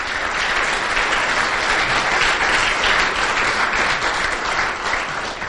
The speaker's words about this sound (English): Can we clap and welcome you?